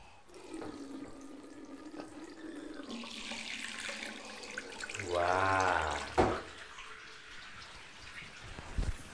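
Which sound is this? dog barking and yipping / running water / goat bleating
running water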